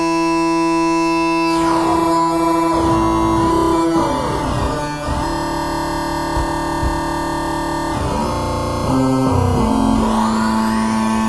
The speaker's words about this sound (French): Alors j'ai une pédale assez rigolote qui s'appelle la Jager Counter, qui est une espèce de pédale de distorsion, mais avec dans lequel il y a intégré en fait un petit ordinateur 8 bits qui permet de faire des sons de ce genre.